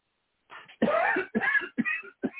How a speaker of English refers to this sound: Take a deep breath and cough.